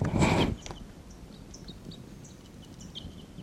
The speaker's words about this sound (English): Wild birds are calling there. Wild birds are calling a bit loudly now.